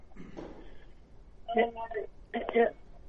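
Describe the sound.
A television plays in the background over a phone line: muffled, narrow-band voices come in short bursts, tinny and distant, with a quiet hiss between them.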